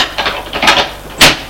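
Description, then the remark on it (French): A door facing a small washroom in a home is opened: a few light clicks and rattles of the handle and latch, then a sharper knock-like thump as it swings free. No one speaks. “En face de la salle d'eau, ouvrons une porte.”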